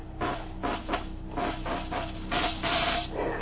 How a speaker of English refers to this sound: Show us how this mechanical mouse catcher operates. You better get out of the way, Mr. Marin. If you've touched any of the mice in the lab, she'll go for you. She reacts to smell as well as sight and sound. All right, Tully, start it up.